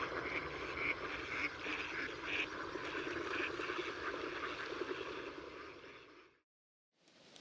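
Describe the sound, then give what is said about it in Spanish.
Mallard ducks in Cabañeros, Spain, quack in a dense, continuous chorus, loud, with overlapping calls. The sound cuts off abruptly near the end, then briefly resumes. “Ánade real y ave fría son dos especies invernantes, pero en Cabañeros están presentes durante todo el año.”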